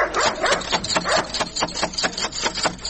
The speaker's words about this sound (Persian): اوهو، این چی سگ خطرناک داره که نخوریم ما.